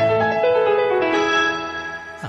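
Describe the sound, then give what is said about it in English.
A short Touchstone Television production company logo jingle: a bright, sustained musical chord that swells and fades over about two seconds, played alone with no voices, ending on a quick rising flourish. “That is Touchstone Television.”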